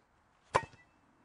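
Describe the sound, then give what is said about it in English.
A single sharp, hollow whack as a golf club strikes a basketball off a tee in a golf practice drill called the basketball drill, followed by a couple of quick, fading rebounds, with no talking around it. “It's called the basketball drill. Hit it off a tee.”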